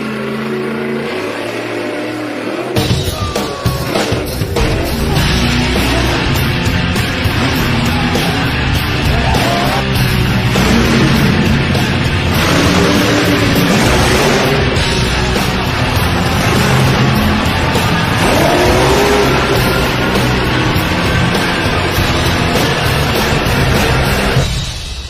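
race car engine revving

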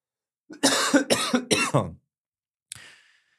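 coughing fit

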